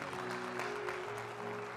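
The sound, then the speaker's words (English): An audience claps hands to give God honor in a steady, dense wash of applause, with a sustained musical tone humming underneath throughout. “Come on, clap those hands and give God honor.”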